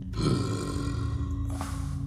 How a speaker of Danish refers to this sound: Så slår den en kæmpe bøvs.